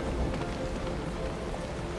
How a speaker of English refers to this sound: Water. Falling on a city.